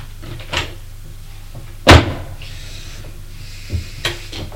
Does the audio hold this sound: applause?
no